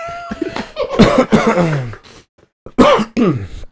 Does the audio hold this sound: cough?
yes